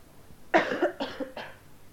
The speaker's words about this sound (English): That was a cough. Someone coughed.